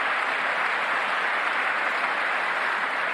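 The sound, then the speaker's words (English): A man clapping for himself during his own speech: steady, dense clapping runs unbroken for a few seconds at an even loudness, with the individual claps blurring together into a continuous bright patter. No one speaks. “Every time you hear that, that's him clapping for himself.”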